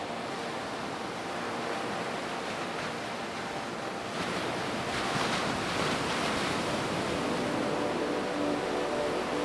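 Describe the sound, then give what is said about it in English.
Ocean waves wash onto the shore in a steady, hissing roar that swells louder about halfway through as a bigger wave breaks. No one speaks. “And before you close your eyes to rest, you look out into the ocean. Watch the horizon and how the ocean meets the sky.”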